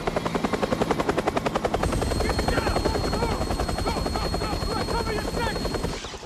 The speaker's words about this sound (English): spots a military chopper as it lands on the neighboring tower's helipad. Three soldiers take up positions.